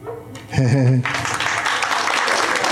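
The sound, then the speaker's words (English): A short, warbling voiced yelp gives way to about two seconds of steady, moderate clapping from a small crowd, even and unhurried like polite applause. “Followed by polite golf applause.”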